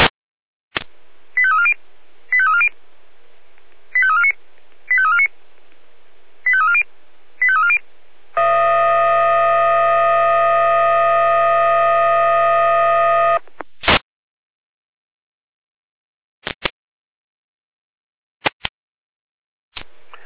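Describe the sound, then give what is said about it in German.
A fire brigade radio alerting sequence from the Jena control centre: six short electronic tone bursts in quick succession, then a loud sustained multi-pitched alarm tone lasting about five seconds, followed by a few sharp radio clicks and static pops. “Leitstelle Jena mit Alarmierung.”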